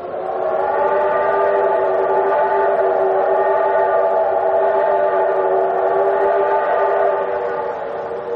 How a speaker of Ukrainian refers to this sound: Я народився під паровозний гудок